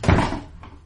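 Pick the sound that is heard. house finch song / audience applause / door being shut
door being shut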